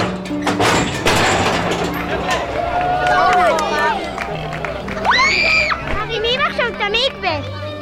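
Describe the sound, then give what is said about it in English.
A crowd murmurs and chatters throughout as it watches a crane raise a mikveh and lower it into a freshly dug hole, with overlapping voices and children's higher-pitched calls and shouts rising above the steady hubbub. “The crowd watched the mikveh rise up, higher and higher, and then slowly be lowered back down into a big, freshly dug hole.”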